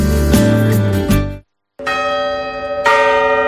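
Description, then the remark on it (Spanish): Loud, resonant New Year's clock bell chimes, twelve strikes, ring out one after another, each strike humming with rich overtones, broken by a brief silent pause before more tolling continues. “Acabamos el año con las 12 campanadas Hyundai.”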